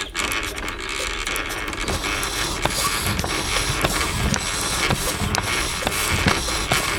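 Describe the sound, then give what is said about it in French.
A steady, dense mechanical clatter of creaking, ratcheting and rustling parts, like a wooden contraption with flapping wings in motion, continuous for several seconds with no voices; a recreation of the sound Leonardo da Vinci's flying machine might have made. “il est fasciné par la machine à voler de Léonard de Vinci. Alors il va la reconstituer. Pas la machine elle-même, hein. Non, son bruit.”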